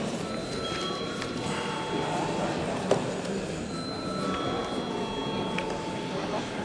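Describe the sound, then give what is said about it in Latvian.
A Latvian-language parliament chamber bell rings steadily for several seconds before deputies vote on a bill in its third reading, a continuous buzzing ring with sustained high tones over a low background murmur. “Paldies, lūdzu zvanu.”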